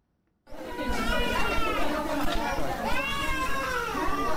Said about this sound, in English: Nine infants cry for assistance at the Kolofata Central Mosque on Cameroon's northern border with Nigeria.